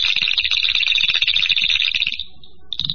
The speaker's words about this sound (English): And there's our Mad... Oop. Like crickets.